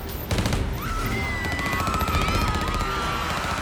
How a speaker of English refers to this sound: The music was too loud, and so the agents opened fire. They began spraying the car with bullets.